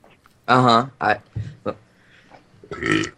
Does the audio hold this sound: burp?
yes